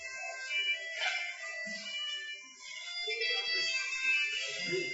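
A cell phone ringtone plays continuously for several seconds, a bright, tinny electronic melody of steady tones, moderately loud and a bit distant, with faint room noise underneath.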